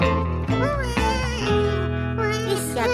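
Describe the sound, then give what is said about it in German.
A baby that has just woken up wails loudly and continuously, its cry rising and falling in pitch with a warbling, whimpering quality, with no other voices. “Oh nein, jetzt ist es wieder wach geworden.”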